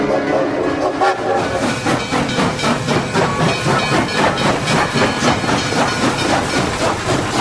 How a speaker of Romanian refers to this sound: Ieri când trenul s-a îndepărtat și odată cu el și tu, am simțit lămurit pentru prima oară că noi de fapt ne despărțim cu adevărat.